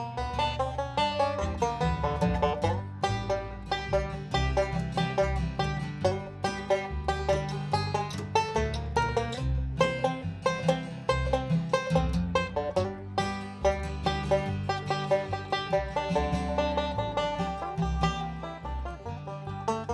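A recorded blues song plays steadily and at full volume for the whole stretch, with dense instrumentation, a driving rhythm, and no talking over it.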